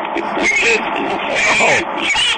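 A pig oinks and squeals loudly, a dense run of grunting, nasal calls packed together with barely a pause across the whole stretch.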